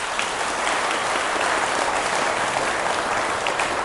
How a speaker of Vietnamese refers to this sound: Nếu quý vị thấy làm việc này làm được thì hãy dâng cao một tràng pháo tay thật lớn nè.